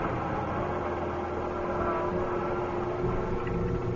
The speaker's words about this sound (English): Now, hold it a minute. What? Stop the car. What is it? Back it up.